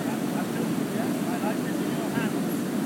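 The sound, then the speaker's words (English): Another boat's engine drones steadily a little way off across open water, coming up alongside on the left during a boat trip near a waterfall, mixed with rushing wind and splashing, with faint voices in the background. “The other boat now is coming up along.”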